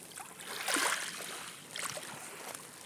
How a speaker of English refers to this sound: I just love the sound of the sea. I'm in the sea!